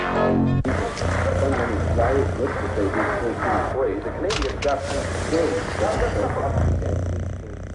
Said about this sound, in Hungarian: A cicámnak minden oka megvan a boldogságra. És nekem is, mert ő az én cicám. Viszkász, doromboljunk együtt.